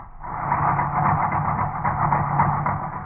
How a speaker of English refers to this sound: But instead, Bob gets a ride to the railroad station in a Jeep.